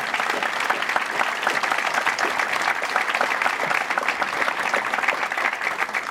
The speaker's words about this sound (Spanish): Mis respetos a nuestros compañeros de la bella provincia mexicana. Les ruego a todos ustedes que les demos un aplauso para que sientan que están con nosotros.